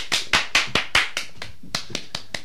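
A single person claps about a dozen times in a loose, slightly uneven rhythm. The claps are sharp and crisp at first, then grow softer and more spaced out before stopping.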